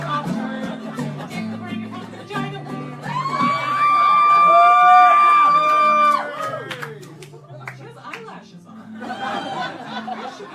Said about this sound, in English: That crowd was way too fucking loud.